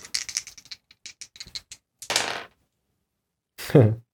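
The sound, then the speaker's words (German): Dice are rolled in a game needing a total of 23, rattling and tumbling in a quick run of sharp clicks, then a brief louder clatter, followed by a short voiced exclamation after a pause. “Dann lass uns mal würfeln.”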